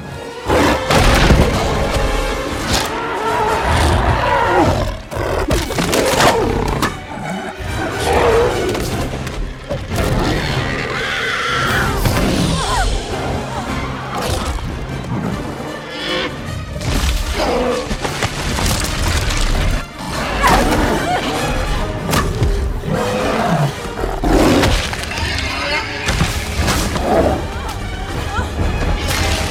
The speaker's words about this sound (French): Il peut donc tourner de longues scènes d'action, comme celle dont vous allez entendre un extrait, Kong y combat trois tyrannosaures au bord d'un ravin, tout en tenant Anne dans sa main.